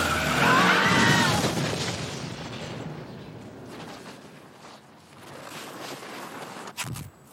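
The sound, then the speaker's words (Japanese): A car roars off with a sharp tire screech, the engine and squeal loudest at first, then fading as it speeds away, ending with a brief thump. “ところでこの車誰のなの？”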